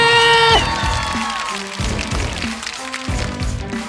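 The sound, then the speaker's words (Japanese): Audience applause for an MC battle winner who took 1,000,000 yen, defeating the reigning champion, a dense, steady wash of clapping that runs throughout, mixed with music: a held tonal chord at the start, then rhythmic low beats underneath. “ゆかりに大きな拍手。ゆかりついに敗北。 100万円取った諏訪子に大きな拍手。”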